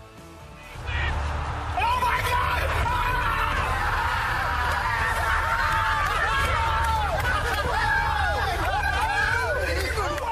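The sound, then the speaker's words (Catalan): In the ITV television studio, Lineker, Gerrard, Ferdinand and Michael Owen shout and cheer excitedly at Barça's feat, jumping with joy, their voices loud and overlapping in a continuous euphoric outburst that erupts after a brief quiet moment and carries on to the end. “Aquests crits, aquesta eufòria, té quatre protagonistes.”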